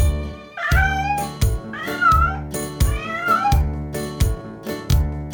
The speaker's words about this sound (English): The cat on the farm goes meow, meow, meow, meow, meow, meow, meow, meow, meow. The cat on the farm goes meow, meow, meow, meow, meow, meow all day.